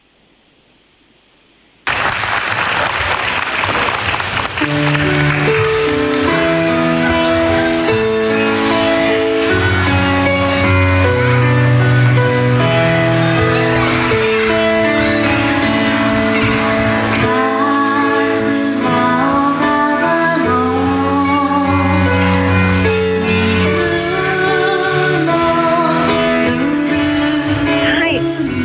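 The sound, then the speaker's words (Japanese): A live band performs at a Kizuna exchange gathering in a gymnasium next to the Kawanishi community hall, where Katsurao village residents evacuated after the disaster. It starts after a couple of seconds of quiet and plays a steady, loud piece with sustained melodic lines over a low bass, continuing without pause. “これ音を聞いていますと外で演奏しているように聞こえるんですが、これはどこで演奏したものなんですか？”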